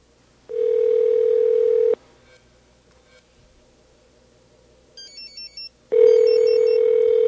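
A steady, loud telephone dial tone hums for over a second, cuts out, then a few quick keypad beeps sound as a Sprint number in a studio is dialed to leave a numeric page, before the dial tone returns, clear with no one speaking.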